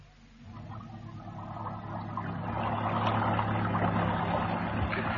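A small boat's engine runs at night in the dark with a steady, low throbbing drone and a wash of water noise, growing slightly louder after the first couple of seconds and holding constant, with no voices.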